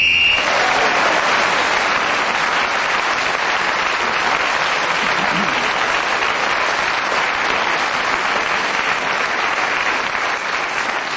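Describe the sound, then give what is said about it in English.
A sustained round of audience applause for a contestant who kept speaking for a whole minute, dense and steady clapping at a loud, even level from start to finish, with no voices speaking over it. “Well, Clement, the round of applause you received at the end for keeping going, not only for a whole minute, but shows that they appreciate your erudition and the way you handle the English language in just a minute.”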